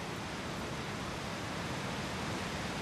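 A waterfall at low water, heard through trees from about 20 feet away, gives off a soft, steady rushing hiss, even and unbroken throughout, fairly quiet rather than roaring, with no voices.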